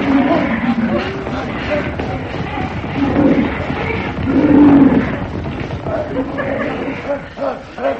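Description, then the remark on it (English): Packs of lions and tigers roar and growl in overlapping bursts, loud and gritty, with a rumbling low swell near the middle and a busy, crowd-like wash of noise throughout. “But look, packs of lions and tigers.”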